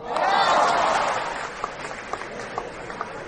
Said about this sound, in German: Wir sind unter den Top 30. Kannst du jetzt so einen Applaus einspielen?